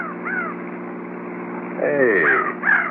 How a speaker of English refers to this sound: look at them hawks flying down there in the canyon.